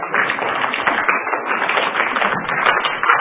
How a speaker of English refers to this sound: So could we give them one quick round of applause? Could we do that?